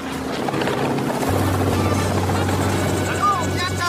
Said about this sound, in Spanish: Se acerca un helicóptero. Mamá bajando de un helicóptero.